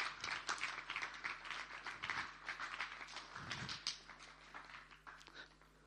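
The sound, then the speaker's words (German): An audience claps steadily for several seconds for the performers, a dense patter of many hands, sustained and fairly even before easing off slightly at the end. “So, gebt mal unseren Darstellern noch einen Applaus.”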